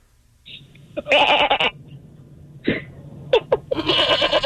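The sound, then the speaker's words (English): A person imitates a goat, letting out several loud, wavering bleats in quick bursts, with short gaps between them and a longer quavering bleat at the end. “My talent is I could sound like a goat.”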